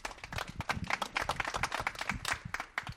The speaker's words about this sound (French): Sur ces applaudissements prend fin notre émission